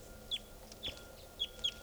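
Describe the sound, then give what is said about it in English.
A wild bird, a red male perched in a tree near a truck, gives four short, high-pitched calls, each a quick downward-sliding chirp at irregular intervals, over a faint low background rumble with no talking. “That was the wild bird there.”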